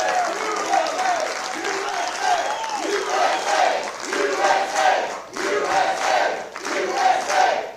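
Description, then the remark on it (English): A large crowd at the filming of a WVW TV special in the Mid-South cheers and applauds continuously, with dense clapping under rising and falling shouts and whoops that swell in loud waves throughout. “This is a good crowd.”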